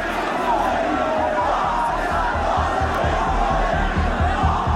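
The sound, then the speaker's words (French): A huge crowd of more than 2 million people in Tehran, Iran, roars and cheers as Khomeini crosses the capital, a dense, continuous wall of voices, with a steady rhythmic pulse of chanting or clapping running beneath it throughout. “Alors, Khomeini traverse la capitale iranienne devant une foule de plus de 2 millions de personnes.”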